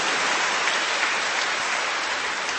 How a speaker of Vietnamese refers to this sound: Ta hân hoan chào nhau, đón chào nhau và chúc mừng nhau một tràng pháo tay nồng nhiệt thưa các bạn.